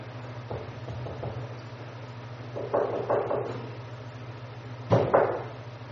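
Groups of heavy thuds pound on a door, first a few soft ones, then a cluster of three and two louder blows near the end, over a steady low hum.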